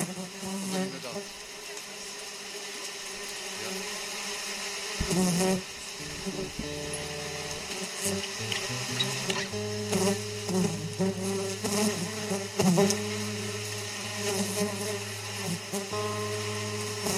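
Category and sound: insect, wasps buzzing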